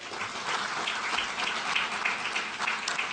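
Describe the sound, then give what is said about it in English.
Steady applause from an audience after the announcement that Firefly was selected as the carrier spacecraft for a lunar drone mission, a dense wash of many hands clapping at once, fairly loud and sustained throughout with no voices standing out. “Big round of applause for Firefly.”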